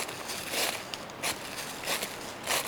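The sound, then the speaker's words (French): Footsteps crunch through dry dead leaves in a forest at a steady walking pace, each step a brief rustling burst, with softer crackling in between and no voices. “Sur les feuilles mortes”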